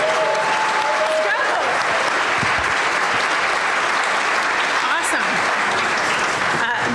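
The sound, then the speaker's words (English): Steady, dense applause from a crowd at a University of Washington event welcoming Coach DeBoer and his family: a continuous wash of clapping at a loud, even level with faint voices mixed underneath. “Before I formally, was that a clap?”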